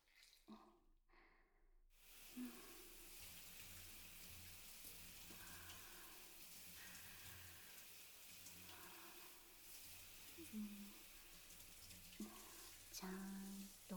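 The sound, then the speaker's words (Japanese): Steady running water pours and splashes for several seconds, a continuous wet rush with faint drips and small clatters, like a shower rinsing soap foam off in a bath. “ずっと泡だらけだと滑って危ないし。一回流すね。”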